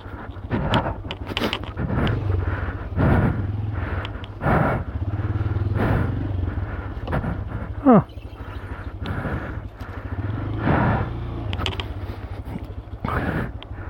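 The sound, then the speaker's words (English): A motorcycle, not a dirt bike, idles and revs unevenly on a rocky trail, with sharp knocks and scrapes as it works over rough ground and stones, a voice talking now and then. “Watch the engine.”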